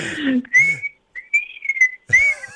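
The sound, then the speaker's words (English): Someone whistles a short melodic tune, clear, with gliding pitch changes across several phrases, briefly interrupted by a little speech at the start and end. “You can almost whistle like a human, and I can only replicate 90% of those notes.”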